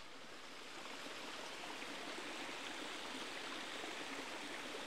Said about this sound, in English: With all this rain, the streams that run down through Hackfall are really flowing at quite a pace today. The one that we're just about to cross is coming down from the bottom of 40-foot fall, the waterfall that we could see from the grotto.